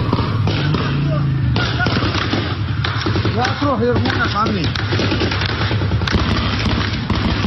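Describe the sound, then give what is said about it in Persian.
Loud, sustained bursts of rapid heavy machine-gun fire crackle through a noisy outdoor scene in Mahshahr, Iran, with sharp repeated reports and booms while voices shout in the background. The guns are fired at the reed marsh where protesters had taken refuge. “شاهدان عینی میگویند در شلیک به نیزار ماه شهر که معترضان به آن پناه برده بودند، از تیربار هم استفاده شده است.”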